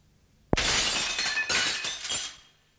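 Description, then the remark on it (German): A window pane struck with bare fists shatters with a sudden, loud crash, then shards keep tinkling and clattering down for about two seconds before fading to silence. No voices. “Dann mit bloßen Fäusten auf die Fensterscheibe los.”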